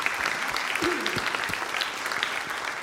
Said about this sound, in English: I'm just going to invite you to join me in a round of applause for these students that we're celebrating today. Amen.